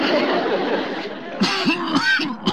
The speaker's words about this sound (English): But take my advice, Chief. See a doctor. That's a nasty cough you've got there.